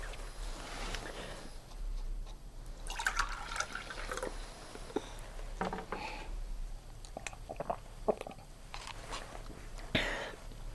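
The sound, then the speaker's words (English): Water is poured into a glass with a light splashing, trickling sound, broken by a few soft clinks and taps, fairly quiet, with no one speaking. “Can you pass me water?”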